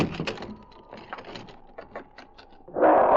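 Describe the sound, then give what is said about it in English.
A dog named King growls low and paws repeatedly at a wooden cabin door, quick uneven scratches, ending in a sudden loud, harsh burst of noise. “He growled low in his throat and began to scratch at the door.”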